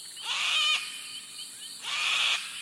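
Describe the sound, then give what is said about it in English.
A sulfur-crested cockatoo gives two harsh, raspy screeches about a second apart, loud, with no voices around them. “Imagine you're about to shake hands, but with a sulfur-crested cockatoo.”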